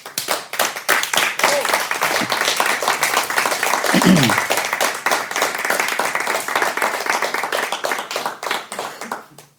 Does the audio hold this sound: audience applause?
yes